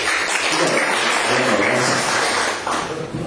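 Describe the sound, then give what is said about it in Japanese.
Audience applause at a club meeting: a dense, steady patter of many hands clapping at once, fairly loud, lasting the whole few seconds with no voices over it and only a slight dip near the end. “拍手です。”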